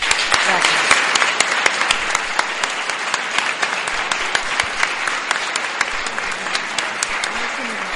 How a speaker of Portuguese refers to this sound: Entón, pediríavos, por favor, un aplauso a esta persoa que tanto fixo por este instituto.